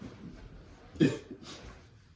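A small, brief fart, a single short puff with a soft, low rasp, followed by a faint breathy hiss.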